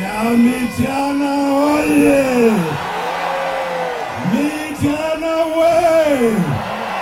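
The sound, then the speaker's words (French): Several thousand supporters of opposition presidential candidate Kizza Besigye sing together in loud unison while dancing on a small vacant lot at his rally in Kampala, Uganda: two long rising-and-falling chanted phrases separated by a brief dip, with shouts and steady crowd noise throughout. “Ils sont plusieurs milliers à danser et à chanter sur un petit terrain vague.”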